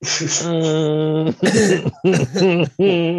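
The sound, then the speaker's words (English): A drawn-out, throaty vocal groan followed by three harsh, voiced coughs in quick succession, loud, with no other sounds around them. “Yeah, I ain't gonna lie, I've been coughing all day too.”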